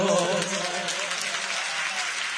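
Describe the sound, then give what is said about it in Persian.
An audience claps steadily for a few seconds, a dense, even patter of many hands, with a voice briefly audible under the applause at the start. “خواهی همینجو دست بزن، من این دو سبایتشو توی دست زدنت بخونم.”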